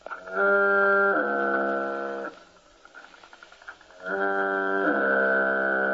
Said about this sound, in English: All right, let's turn on a recording of the foghorn, feed this into Sonovox, and thus hear the foghorn coming out of my mouth.